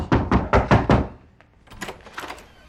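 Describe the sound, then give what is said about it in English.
Five firm, evenly spaced knocks on a house door by the sheriff, loud, followed by quieter shuffling and faint movement sounds. “Then comes a knock at the door, the sheriff, and behind him, Carver.”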